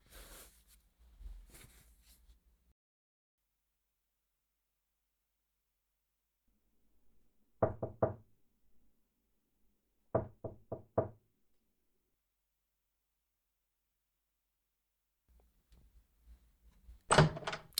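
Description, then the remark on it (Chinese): Knocking on a door in the daytime: two firm raps, a pause of a couple of seconds, then four more in quick succession, clear against otherwise quiet surroundings. “Hello 啊，我就知道，大白天不开门就是在睡觉。”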